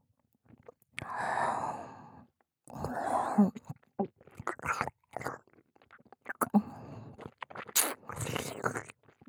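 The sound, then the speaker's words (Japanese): Wet mouth sounds come in several sticky bursts of a nun's thick, gooey saliva, smacking and slurping with soft breathy gaps between them, loud and intimate, with no talking. “どうですか？シスターのトロトロの唾液。”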